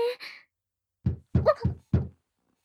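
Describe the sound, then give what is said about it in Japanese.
Four solid knocks on a wooden door, loud and sudden, landing in an uneven rhythm after a brief trailing murmur at the start. “急にノックされると超ビビるんだけど。”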